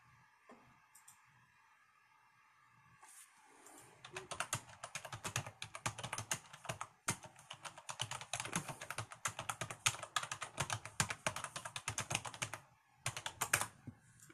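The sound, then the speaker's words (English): Fast, steady typing on a computer keyboard, a dense run of key clacks lasting about ten seconds after a brief quiet stretch at the start, with no one speaking. “So anyways, it just asked about YouTube, you know, that's why I was pounding out on the keyboard.”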